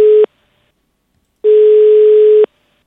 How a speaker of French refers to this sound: Je vais composer le numéro un instant en direct parce que c'est peut-être l'un d'entre vous que je vais appeler. C'est parti, ça sonne.